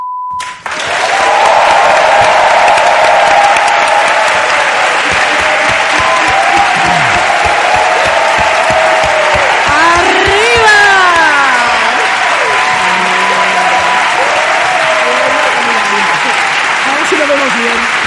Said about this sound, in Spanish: Hemos reventado. Hemos reventado el aplausómetro.